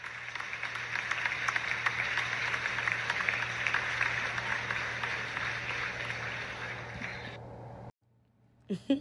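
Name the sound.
round of applause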